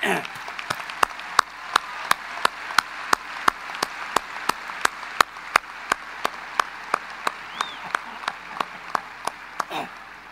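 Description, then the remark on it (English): An audience at a university gathering claps for the faculty and other university staff: steady, evenly paced sharp clapping, repeating about twice a second for around ten seconds, with a faint crowd murmur underneath before it stops. “But let's clap your faculty and all of the other people in the university who did what they did.”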